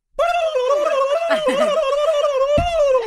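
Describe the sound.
A person imitates a turkey gobble, a loud vocal warble that wavers and trills rapidly for about three seconds, with no talking around it.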